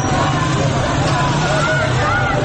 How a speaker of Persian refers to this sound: یک گروه از موتوری‌های ضد شورش از بالا می‌آیند و با سر و صدای زیاد از کنار مردمی که در پیاده رو ایستادند حرکت می‌کنند.